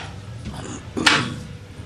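A door is pushed shut softly without being latched or locked, giving one muted thud with a short scraping rattle about midway through, set against a low steady background hum.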